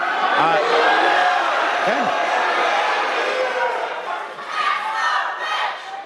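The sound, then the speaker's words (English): A large crowd at a Republican representative's town hall in Lincoln, Nebraska, boos and shouts loudly and continuously at him as he speaks about a bill, a dense wall of jeering voices that swells and dips slightly over several seconds with no single speaker audible. “You know, he could barely get a sentence out without being booed down.”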